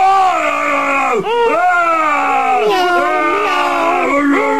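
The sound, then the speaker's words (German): A human voice imitates a stronger bear to chase away another bear, a loud, drawn-out bear roar, its strained pitch swooping down and back up several times without a break for a few seconds. “Ich mach noch einen stärkeren Bären nach, der wird den anderen Bären verjagen.”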